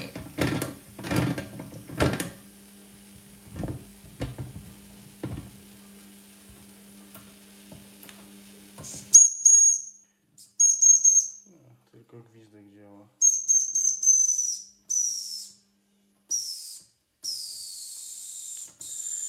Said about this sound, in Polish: Albo zabrakło już paliwa, albo woda się wygotowała. No cóż. Wyjmę tackę z paliwem i wrzucę do wody. Tak oto przebiegła nieudana próba startu modelu maszyny parowej.